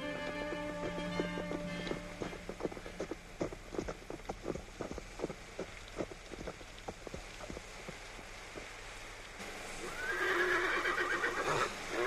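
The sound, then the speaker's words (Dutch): A horse whinnies loudly, then hooves clip-clop in a steady trot for several seconds before another shrill neigh rises over a rush of noise at the end; the horses are exhausted. “De paarden zijn dood op, monsieur.”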